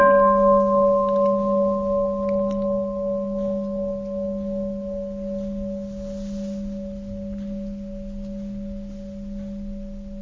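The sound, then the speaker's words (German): A single deep bell is struck once and left to ring, its steady humming overtones slowly dying away over about ten seconds with no other sound. “Nehmen wir mal gerade die Glocke.”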